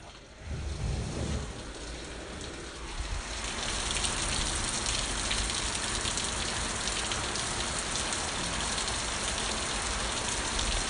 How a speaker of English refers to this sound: Oh boy, listen to that rain come down.